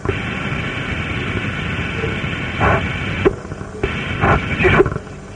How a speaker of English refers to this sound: That fan's noisy, isn't it? Yeah, it is, isn't it? It's called an engine, actually. Is it?